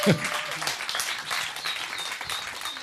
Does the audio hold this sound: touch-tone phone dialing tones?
no